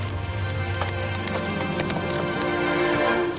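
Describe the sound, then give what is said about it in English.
A flurry of metallic clinks and jingles as coins scatter and bounce across a hard surface when money changers' tables are overturned, sharp, over a low steady rumble with no voices. “He overturned the tables of the money changers. Scattered their coins.”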